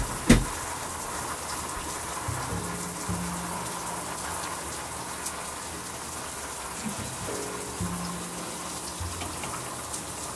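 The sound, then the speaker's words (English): Shower water runs in a steady, hissing spray for the whole stretch, with a sharp knock at the very start and a faint low hum beneath. No one speaks. “So we're gonna take a shower, wash my face, and brush my teeth.”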